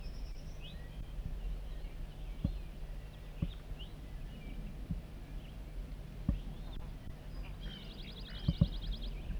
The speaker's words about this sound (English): Up here, wild birds coming in. 3 wild birds. All appear to be males. Sitting in a dead pine that's just beyond the net site. Tooping by 4-3. Cheering by wild birds.